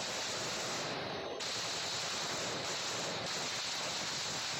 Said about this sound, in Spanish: Es una lluvia de balas. Es una lluvia de balas, diferentes calibres.